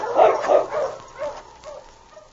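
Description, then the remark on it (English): A sled dog team barking and yipping as the lead dog King turns the team and leads it along a back trail toward a cabin: a burst of loud overlapping barks at first, then a few scattered, fainter yelps trailing off over a couple of seconds. “King quickly turned the dogs to the team.”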